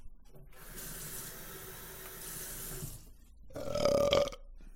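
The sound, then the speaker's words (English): Water is added to an overheated cooking pan to cool it down, setting off a loud, steady hiss of sizzling steam for a couple of seconds, then a brief, harsher bubbling surge before it quiets down. “I'm backing the temperature down. And I'm gonna, let it cool off a bit. It's crazy. It's gone beyond Thunderdome. Let's get it some water.”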